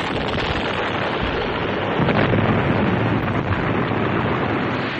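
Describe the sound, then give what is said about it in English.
A large fiery explosion roars steadily, a dense, loud rush of rumbling noise that swells slightly midway and sustains throughout, with no voices. “He was aware only of the fire, reddish-yellow, roiling out from under the beast. It engulfed the creature and slammed Lando with heat and noise.”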